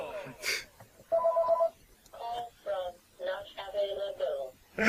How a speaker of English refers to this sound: Stupid phone. Phone call!